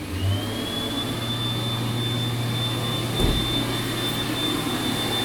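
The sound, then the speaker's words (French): A Dyson hand dryer, the kind where hands go down into a hollow slot, blowing turbo air: a high-pitched whine spools up at the start and holds steady over a loud, constant rushing roar, with one brief thump partway through. No one speaks. “Vous savez, ceux où on passe les mains vers le bas dans un truc creux qui souffle de l'air en mode turbo.”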